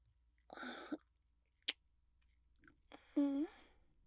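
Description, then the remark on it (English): A short, wet slurping sip, followed by a single sharp mouth click and then a brief hummed vocal sound, with quiet pauses between. “let me just get some in my mouth first.”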